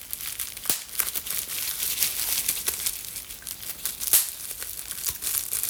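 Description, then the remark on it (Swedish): Bubble wrap being squeezed and popped: a steady crinkly plastic rustle broken by several sharp, irregular snaps, with one louder pop standing out. No voices are heard. “jag kom på mig själv att börja leka lite med den här bubbelplasten och slå hål på de olika bubblorna som finns helt enkelt.”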